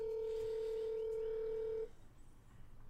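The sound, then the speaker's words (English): A single steady, mid-pitched electronic phone tone sounds for nearly two seconds as a call is placed to the speaker's dad, then cuts off abruptly, leaving faint background noise. No one speaks. “So we're going to call my dad.”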